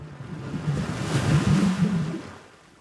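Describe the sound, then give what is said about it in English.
Water churns and swirls with a low, rumbling wash that swells to a peak midway and then ebbs away, steady with no voices. “You find yourself in the water now. The pool of thought swirls around you, and you hear this story anew.”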